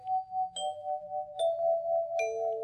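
A doorbell chime on the front door of a production company office rings out four clear, sustained tones in a slow sequence, the last one dropping lower, each note ringing into the next over a faint low hum.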